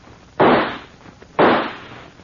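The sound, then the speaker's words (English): Two loud gunshots fired at a door ring out about a second apart, each a sharp, sudden crack followed by a short fading tail, with no voices in between. “You know I missed on purpose, but next time I won't, and on purpose.”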